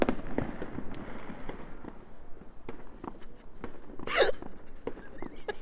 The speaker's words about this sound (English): That sure is actually a firework, you see.